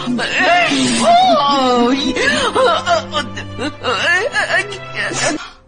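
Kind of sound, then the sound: human body sound, person crying and whimpering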